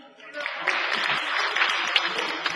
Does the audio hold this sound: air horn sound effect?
no